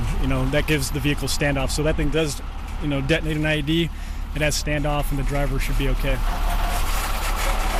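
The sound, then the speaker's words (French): A military truck engine idles with a steady low rumble that continues throughout, while a man talks loudly over it. The truck is there to make a second pass over the route to set off any IED (roadside bomb) during a training session. “Mais le camion est là pour faire un deuxième passage, pour être sûr que les gars n'ont rien raté en roulant dessus et en le déclenchant.”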